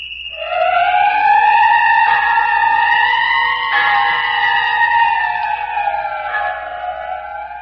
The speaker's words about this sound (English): Don't you hear the whistle?